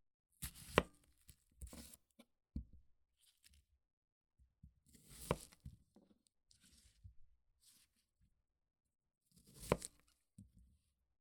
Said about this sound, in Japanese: 玉ねぎを切っても全然涙が出ません。強がってるわけではないですよ。